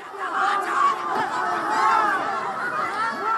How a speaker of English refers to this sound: Video posted online shows crowds of demonstrators yesterday carrying signs, shouting near the Pakistani embassy. This is sound from NBC News.